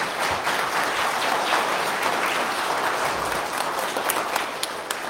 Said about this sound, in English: Of course, you heard our choir sing and our accompanists play this morning and to dedicate their time and energy, and I think it's appropriate today to give them a round of applause for all their great work.